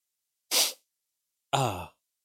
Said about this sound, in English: I'm sneezing.